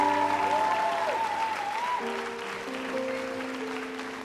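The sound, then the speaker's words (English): A church audience applauds the worship team steadily, a dense wash of clapping with a few cheers rising over sustained instrumental tones from a keyboard or organ playing underneath. “I know they don't do it for the applause.”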